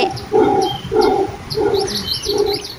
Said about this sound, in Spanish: Mira, ¿es el oso hormiguero gigante? A ver, escuchemos. Sí, me parece que sí. ¿Sabes cómo se dice en guaraní? ¿Cómo? Tamandú guazú.